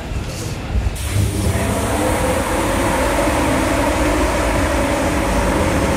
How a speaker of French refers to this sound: Le départ de notre TER à destination de Creil est imminent. Attention à la fermeture automatique des portes. Attention au départ.